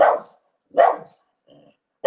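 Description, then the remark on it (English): A female dog barks three times in short, sharp bursts, with a quieter whine or low bark in between; fairly loud, no talking. “She stopped barking.”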